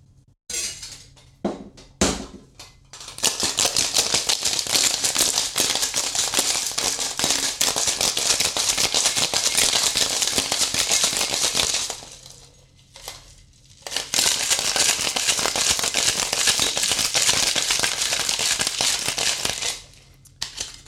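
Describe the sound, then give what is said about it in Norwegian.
A cocktail shaker full of ice rattles hard in two long, steady bursts of dense clattering, separated by a brief pause, after a few sharp clinks at the start. “Da har vi shaket i vei.”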